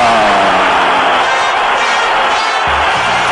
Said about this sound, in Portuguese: Festa total e altamente merecida para a torcida corintiana, fazendo festa ensandecida aqui na Arena Corinthians Itaquera. A torcida vai à loucura.